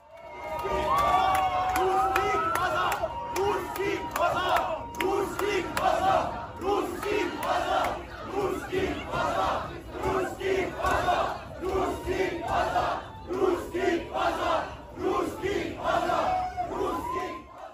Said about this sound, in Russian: Но они кричат «Русские домой»